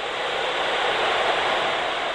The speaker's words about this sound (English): At a distance of 5 meters or so, Tristan Parrish's microtonal wall produces white noise.